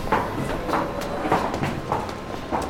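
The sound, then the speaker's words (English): Footsteps of passengers boarding a Bakerloo line train at the Wembley Central platform after the right-hand doors open: a steady run of soft thuds about every half second over a constant low rumbling background, with no one speaking. “And as you can hear, people are moving.”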